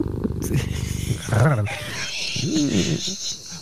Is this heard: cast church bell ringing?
no